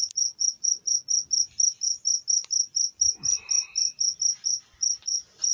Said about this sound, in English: Get away from this cricket a little bit. Of course, once I get out of there, the cricket's a lot less prominent.